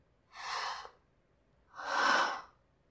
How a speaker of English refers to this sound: What's that? Are you having a hard time breathing?